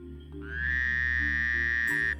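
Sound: frog croaking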